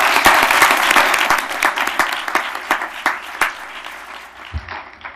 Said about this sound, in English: Could we give them one more round of applause, please?